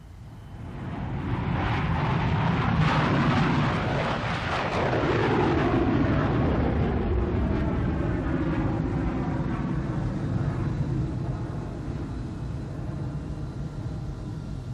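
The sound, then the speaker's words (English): A jet airliner roars as it takes off at Tokyo International Airport, a loud, sustained engine rumble with whining tones that shift in pitch as it powers away, steady throughout with no voices. “Sony Stereo now takes you into the air with the sound of a jet taking off at Tokyo International Airport.”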